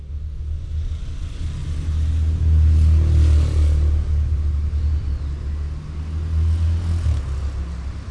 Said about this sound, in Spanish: Enciende el motor rápido y saca el auto del garage.